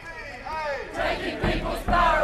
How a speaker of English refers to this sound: Thousands of protesters have poured into the streets across New Zealand, calling on their country to walk away from negotiations of the TPP. More than 2,000 people recently marched in the small New Zealand city of Dunedin,